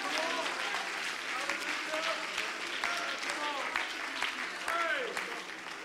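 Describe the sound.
A large audience claps hands in a sustained, dense wash of applause, thanking God, with voices calling out and cheering over the steady clapping throughout.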